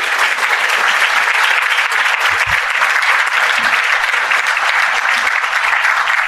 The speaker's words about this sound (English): Please give Jenny another round of applause.